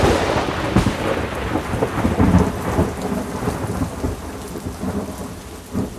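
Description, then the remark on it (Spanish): A night-time thunderstorm in the rainy season, with steady, heavy rain hissing throughout and deep thunder rumbling low underneath, swelling loudest partway through before easing off. No voices, just the storm. “En la noche estalló una tormenta terrible.”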